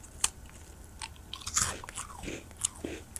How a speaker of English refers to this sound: I'm going to eat a cookie right now. Let's see how this sounds on the radio. Let me see. Hold on.